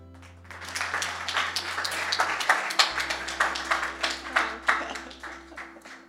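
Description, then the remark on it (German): An audience at a worship service claps for the worship team in a dense wash of applause that swells after the first half-second and holds steady, with sharper individual claps standing out over a low background hum. “Auch nochmal einen fetten Applaus, oder?”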